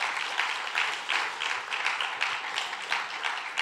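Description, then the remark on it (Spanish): An audience applauds the Lord in a morning service, many hands clapping in a dense, continuous wash with gentle surges, moderately loud and with no voices over it. “Denle un fuerte aplauso al Señor esta mañana.”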